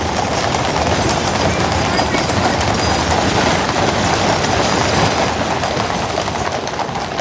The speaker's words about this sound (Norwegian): Ok, jeg har alltid tenkt at biler bråker mye, men det der, det var hester og kjærer. Et eller annet slags militært opptog midt I Hyde Park I London.